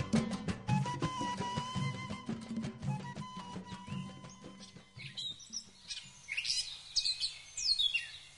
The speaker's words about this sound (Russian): В воздухе разносилось пение птиц.